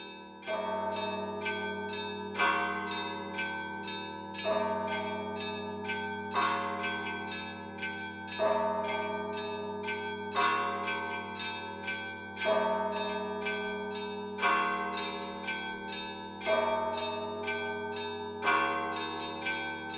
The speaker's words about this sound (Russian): Гулко звуки колокольные улетают в тверд небес. За луга, за степи вольные, за дремучий темный лес.